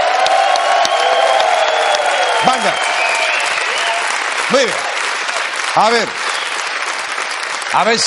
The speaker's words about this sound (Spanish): Un aplauso de entrada para la banda del programa. Ahí está.